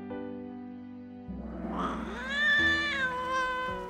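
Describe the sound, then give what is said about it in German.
A cat gives a long, drawn-out meow that rises and wavers, fairly loud, starting after a brief quiet low hum and sustained into a yowling, caterwaul-like cry. “Erfreulicherweise fanden sich die hungrigen Zähnchen der Katze nicht in einer schmackhaften Amsel wieder, sondern in einem erdigen Maulwurfshügel.”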